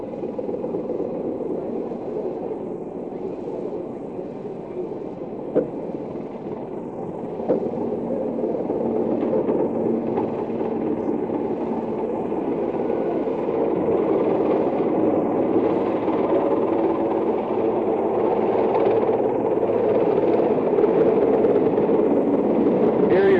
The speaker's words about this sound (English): In a few seconds, you're going to be hearing a lot of rotor noise, and that will be the photographic helicopter landing first, allowing the photographers to get out and cover the welcome aboard ceremonies.